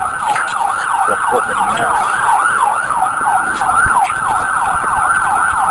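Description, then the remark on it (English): An ambulance carrying a victim sounds its siren, wailing in a rapid, continuous yelp that rises and falls quickly and sounds loud, while a voice briefly speaks beneath it. “He said he had a victim in the ambulance.”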